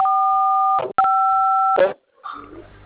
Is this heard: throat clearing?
no